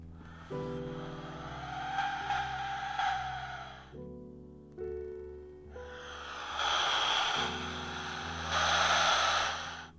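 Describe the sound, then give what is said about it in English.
An Aztec death whistle is blown in three blasts: a harsh, rasping screech, a brief burst, then a longer, louder shriek that sounds like a wailing scream over a low droning hum. “The Aztec death whistle pause.”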